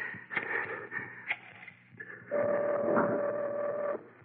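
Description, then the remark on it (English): A telephone being dialed: a few scattered mechanical clicks and clatters, then a louder, steady whirring buzz that holds for nearly two seconds before cutting off. “I put the phone down and dial...”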